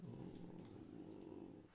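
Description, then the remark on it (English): A low, rumbling growl holds steady for just under two seconds, a continuous throaty drone that stays fairly quiet, with no talking over it. “It was a kind of growling noise.”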